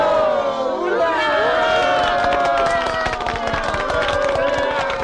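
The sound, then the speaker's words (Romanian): A crowd cheers enthusiastically, many voices shouting and whooping over steady, dense clapping that stays loud and unbroken throughout. “A urmat aclamații entuziaste și aplauze.”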